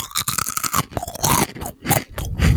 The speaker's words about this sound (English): It's quite a high tonality in in the crunch. I'm going to say it's a Smith's Square Crisp.